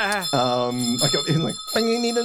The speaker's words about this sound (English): There's a bell that suddenly rings.